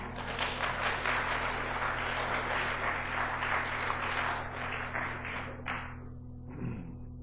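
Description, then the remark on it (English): A church audience gives the Lord a praise clap, clapping together in dense, crackling applause that holds steady for several seconds before quickly dying away, with a low steady hum running underneath. “Let's give the Lord a praise clap.”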